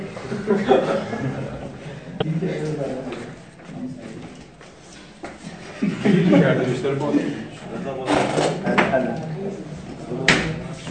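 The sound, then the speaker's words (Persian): A chair creaks and groans under someone's weight, a few drawn-out squeaks with sharp knocks, amid murmuring voices and a bit of chuckling. “شاید دو دو تا صندلی بدیم کمتر بهش فشار بیدنم، این صندلی دو آز میکنه.”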